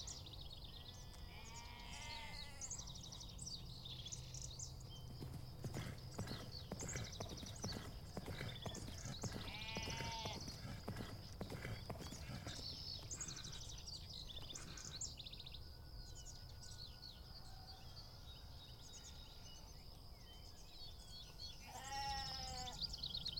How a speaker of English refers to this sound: Listen for the sound of a galloping horse.